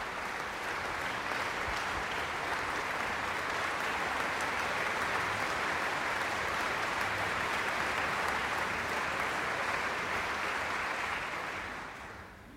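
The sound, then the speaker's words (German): Sustained concert audience applause at the Stadtpark Schützenhof for Serbian pianist Alexander Mažar and the standing orchestra, a dense, steady wash of clapping that holds at an even level for about twelve seconds before tapering off at the end. No voices are heard. “Applaus weiterhin für den serbischen Pianisten Alexander Mažar.”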